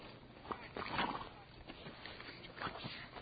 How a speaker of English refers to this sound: I'm surrounded by horses now.